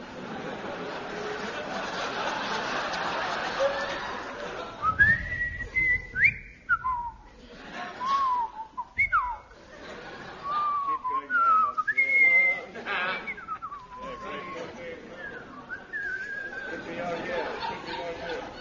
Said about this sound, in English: I will now whistle the soliloquy from Hamlet.